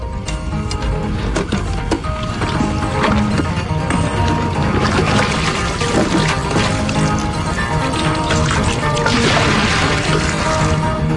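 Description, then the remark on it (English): Loud, continuous water splashing and churning around a small submarine, with irregular sloshes and bursts layered over a steady rushing wash for about eleven seconds, no voices. “Ah, there's nothing like splashing around in a little Bonnie submarine.”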